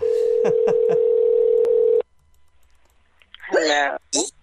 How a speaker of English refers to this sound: So, here we go. We're ringing.